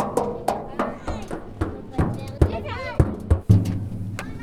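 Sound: children playing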